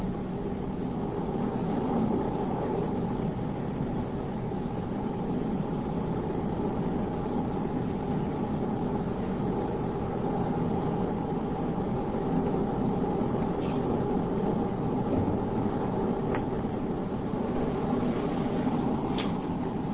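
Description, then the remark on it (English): A steady, unbroken roar of highway traffic at a crash site rumbles throughout, dense low-pitched road noise holding a constant level with no individual vehicles standing out and no voices. “there's a large incidence of accidents on Highway 30 traffic turning up Cornelius Pass.”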